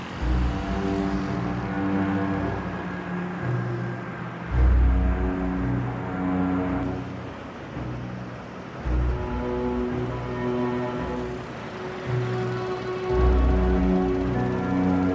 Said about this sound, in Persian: امیر از اتاق بیرون میره. امیر با موتور توی بیابون میره.